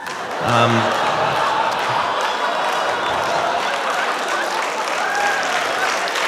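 A steady wash of audience applause, many hands clapping evenly for about six seconds without building or fading, with a brief vocal sound near the start.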